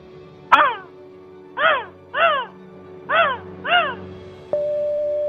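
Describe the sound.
A person calling in by phone from Edmonton does a seagull impression: five loud, nasal, rising-and-falling squawks, one alone and then two quick pairs, followed by a steady electronic tone.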